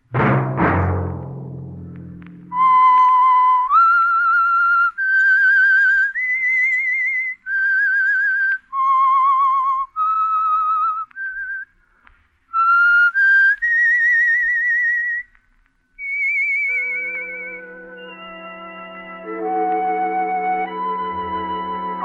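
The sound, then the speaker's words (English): A lone, clear whistled melody, the signature tune of a radio program, carries a slow, haunting tune of sustained notes, loud, before a soft orchestral chord swells in at the end. “That whistle be your signal for the Signal Oil program, The Whistler, each Monday at 9.”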